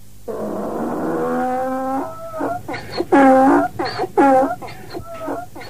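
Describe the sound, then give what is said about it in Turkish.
A donkey at home at a house brays loudly: a long drawn-out honk followed by a series of rhythmic, rasping hee-haw bursts alternating between high and low pitches, with no talking. “Eşek evde ya. Sesini duymuyor musunuz?”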